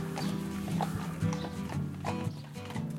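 Heavy hooves clop steadily on a hard surface as draft horses pull a caravan (roulotte) used for the Radio Roulotte radio project, with rattling and creaking of the load, fairly loud, and a faint voice in the background.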